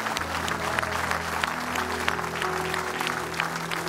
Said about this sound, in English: Would you give that hand? Would you give them a great big clap offering?